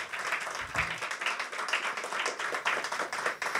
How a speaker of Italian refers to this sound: Un applauso.